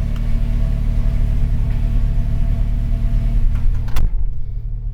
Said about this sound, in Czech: Musím zmačknout cimbolíku, protože ten ložiskový zvuk už mě vytáčí.